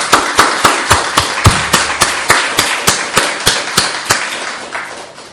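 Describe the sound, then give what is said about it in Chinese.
A gathering claps together to welcome Jesus, in a steady, even rhythm, about three sharp claps per second, loud and crisp with no voices, gradually softening toward the end. “咁我哋都再一次歡迎大家嚟到當中，我哋一齊拍手歡迎我哋嘅耶穌。”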